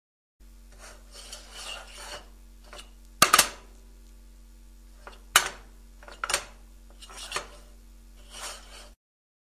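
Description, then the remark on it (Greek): A frying pan is scraped in a series of irregular rasping strokes, with a couple of sharper metallic scrapes standing out, over a faint steady hum. “Τηγάνι.”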